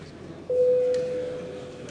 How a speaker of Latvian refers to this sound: Deputāti prasa balsojumu. Lūdzu zvanu. Balsosim par 84. Zaļo un Zemnieku Savienības frakcijas priekšlikumu.